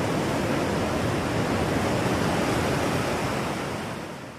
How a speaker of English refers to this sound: I also wanted to share the sounds of the waves crashing as I walk the dogs on the beach.